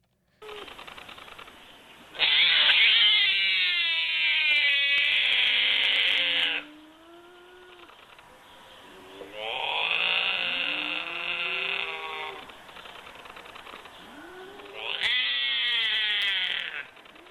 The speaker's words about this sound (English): So binturongs make a variety of vocalizations from chuckles to growls to communicate. Let me see if I can pull up a sound of a binturong so you guys can actually hear what it sounds like.